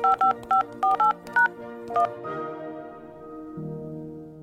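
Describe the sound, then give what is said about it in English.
A quick run of eight push-button telephone DTMF dialing tones, short paired beeps in an uneven rhythm, followed by a sustained musical chord-like tone that lingers to the end. “If there was a phone number that you dialed a lot, like your best friend or your parents, you'd eventually memorize what their number sounded like.”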